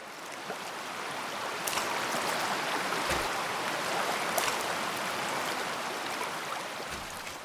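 A steady rush of flowing stream water fills the scene, broken by a few brief, sharp plops and splashes as pebbles are thrown from a bridge at the end of a forest into the water at irregular intervals.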